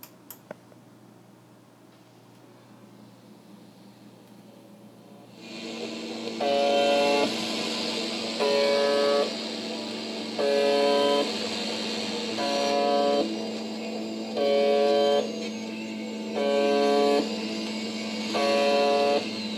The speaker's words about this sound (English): UVB-76 for buzzer.